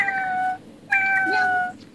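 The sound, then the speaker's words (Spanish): Someone imitates a cat with two drawn-out, steady meows separated by a short pause. The voice is fairly loud, and no one else speaks. “Festival de imitaciones. Edición Animales.”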